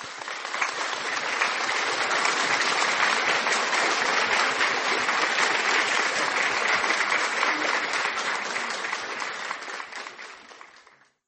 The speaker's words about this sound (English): Oui, ma soeur, mon frère, on peut acclamer pour le Seigneur Jésus. Let us applaud for the Holy Ghost. Applaud, applaud, applaud.